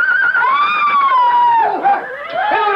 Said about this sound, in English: look, the horses, they've gone mad. And they're going to bolt.